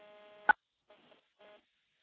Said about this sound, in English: There's a dial tone. We'll dial 9 for an outside line.